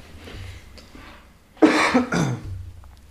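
Two harsh coughs burst out loudly in quick succession, followed by a rougher throat-clearing rasp, with quiet background noise before and after.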